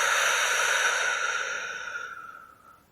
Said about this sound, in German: Wir atmen nochmal gemeinsam ein, die Luft kurz anhalten und wir atmen gemeinsam wieder aus.